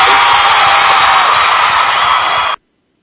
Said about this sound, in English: Okay, we got the clap for you.